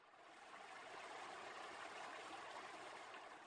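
A steady, rushing flow of water from a stream, broad and continuous with no pauses, close and fairly loud, with no voices.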